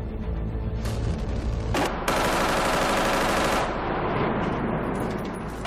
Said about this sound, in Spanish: Las fuerzas sirias desataron una ráfaga de fuego automático contra el piso superior.